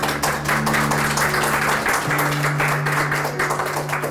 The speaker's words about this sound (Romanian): care merită niște aplauze